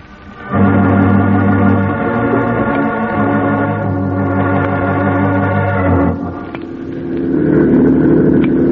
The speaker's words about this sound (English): Good idea, Dave, taking this speedboat instead of a plane.